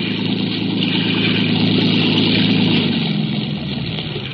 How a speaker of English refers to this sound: Speeding toward us was a motor launch filled with men and with a small boat in tow.